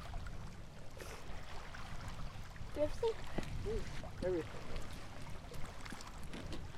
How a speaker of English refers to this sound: And water? Mm-hmm. Yeah, record the water.